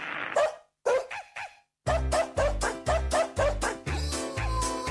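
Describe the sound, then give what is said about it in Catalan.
A few sharp dog barks and yips ring out, then a rapid, rhythmic series of barks plays over a loud, pulsing musical backing. “No, els gossos, no, els gossos i els gats, no, aquí només hi ha gossos, em sembla.”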